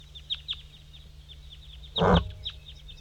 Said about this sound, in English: 5-3 calling and singing. Oh, the wild bird is singing. There's a wild bird still up in the dead pine singing.